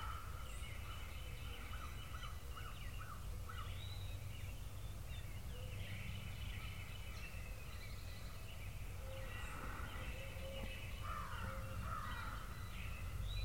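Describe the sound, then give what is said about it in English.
A crow caws repeatedly in harsh, rhythmic bursts, loud, over a steady outdoor background hum with other birds calling faintly. “But you notice that crow is pretty vocal. And he's pretty loud.”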